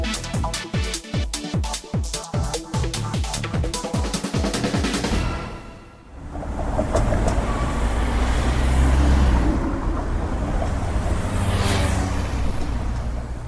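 A short burst of rhythmic music gives way to steady, dense traffic noise on a busy road running along three sides of the IP Pavlova square, with cars whooshing past and a louder vehicle swelling through midway.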